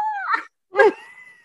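A deaf dog named Rebel whimpers and howls in two short, whiny bursts separated by a brief pause, the second cry louder and trailing off into a thin, fading whine.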